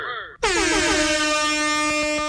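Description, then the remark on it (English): A loud, sustained air horn sound effect blast bursts in after a brief lead-in, its bright harmonic tone holding steady at full volume for about two seconds, piercing with no voices. “That's what the sound with the air horns.”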